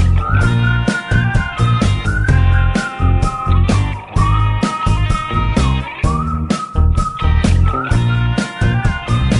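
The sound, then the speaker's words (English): A bright whistled melody glides and wavers up front over a loud, steady backing band with punchy drums and bass, repeating its catchy phrase throughout. “Whistling for 12 seconds.”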